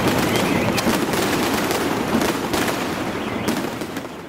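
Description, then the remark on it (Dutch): A long, dense string of Chinese firecrackers set off by Chinese custom at a church after high mass pops and crackles nonstop, rapid bangs blurring into a continuous loud rattle that stays intense throughout, with no voices. “Naar Chinese gewoonte werd er vuurwerk ontstoken. Het is te zeggen, 7 slagers en klakkers om aan het volk in de omtrek te laten horen dat de christenen er een handje van hebben van hun grote hoogdagen te vieren.”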